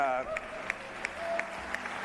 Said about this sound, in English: let's applaud that. Yeah, let's lie, applaud. Cheat, and steal.